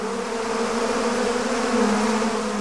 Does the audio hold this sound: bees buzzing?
yes